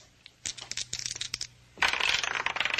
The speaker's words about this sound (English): One of the dice turns up a 6 while the other still spins. Yeah, look at it. See? Yeah, keep your eye right on it.